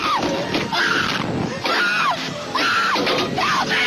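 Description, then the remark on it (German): A crowd of riders on a roller coaster screams together in rising and falling waves, about four surges in a few seconds, loud and continuous over a rumbling ride noise. “Das Geschrei von denen, die auf der Achterbahn sitzen.”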